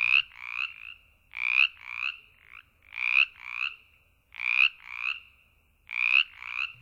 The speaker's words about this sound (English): If you guessed a frog, you're right. If you guessed a chorus frog, you're a frog wizard. And if you guessed Brimley's chorus frog, you're a Virginia chorus frog phenom. You heard a Brimley's Chorus Frog recording by Lang Elliott's Nature Sound Studio